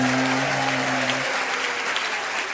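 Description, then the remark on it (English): A bar crowd claps and applauds the television mounted on the wall at the start of the Eggs Blackstone TV show, a dense, steady roar of many hands, with a low sustained hum underneath for the first half that then drops away. “They're applauding the television mounted on the wall over his head.”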